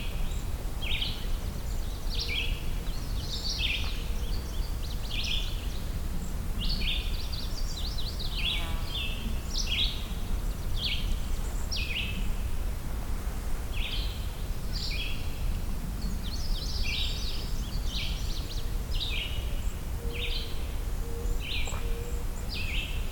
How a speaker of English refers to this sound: You hear a distant American robin there.